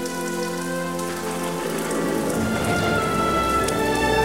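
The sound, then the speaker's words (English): Steady rain falls as Gromit, in a bright yellow waterproof coat, trudges through it with his bundle of belongings; a dense continuous patter and hiss that grows a little fuller after the first couple of seconds, with faint sustained tones lingering beneath. “Now wearing a bright yellow waterproof coat, Gromit trudges through the rain with his bundle of belongings over his shoulder.”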